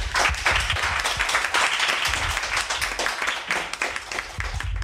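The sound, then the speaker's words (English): An audience claps in a sustained round of applause as the play out at the end of a conversation, a dense, steady patter of many hands at an even loudness, with no one speaking over it. “So if you could give us a quick round of applause for the play out, please.”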